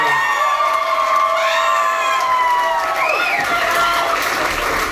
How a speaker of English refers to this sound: Give a big round of applause for Mr. Chad the Bird!